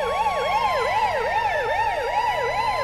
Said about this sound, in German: Nicht etwa, weil sie sich vor dem Inhalt fürchteten, sondern weil die Leute aufgrund der Sirenen am Straßenrand anhielten, den sie für einen Krankenwagen hielten, wenn der Song im Radio lief, was wiederum zu einigen unschönen Behinderungen führte.